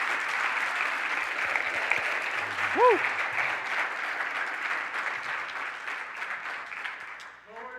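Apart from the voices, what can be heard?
audience applause and cheering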